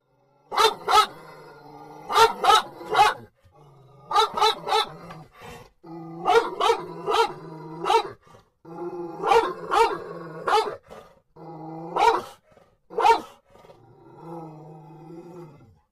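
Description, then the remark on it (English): A dog named Jetski barks and growls in repeated bursts, sharp loud barks grouped in twos and threes between deeper rumbling growls, continuing for about fifteen seconds with no talking, inside a car in a school parking lot after somebody walked by. “We're in the car at Alex's school, and somebody walked by in the parking lot.”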